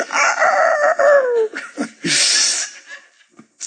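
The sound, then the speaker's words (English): A rooster lets out one long, loud crow that falls in pitch at the end. It is followed by a few short, scattered squawks and rustling noises. No one speaks. “That just makes you want a rooster crow and that stuff.”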